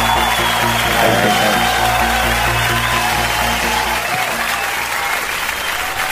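Loud, dense applause from a crowd, a steady wash of many hands clapping for about six seconds, with a low droning hum underneath that drops away toward the end.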